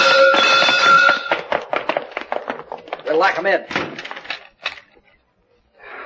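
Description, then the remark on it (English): A space phone being smashed with a metal bar: a buzzy electronic tone gives way to a rapid, irregular flurry of sharp crashing blows, ending with a few heavy hits and brief silence. “This laser sure put that space phone out of order.”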